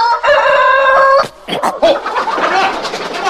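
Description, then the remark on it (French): A rooster lets out one loud, drawn-out crow, then a flurry of hens clucking and squawking in quick, agitated bursts as a fox carries off the rooster. “Que se passe-t-il, les poules? Le renard! Au goupil!”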